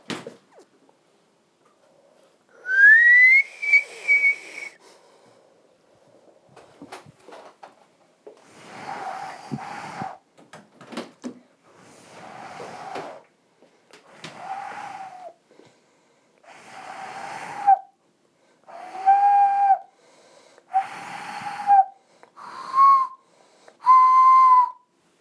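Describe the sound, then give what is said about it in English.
A child imitates owl hoots with about ten breathy, whistling hoo sounds, repeated at a steady pace with short pauses between them. The hoots are fairly loud and mid-pitched, and no one talks. “Very nice owl sounds you made then”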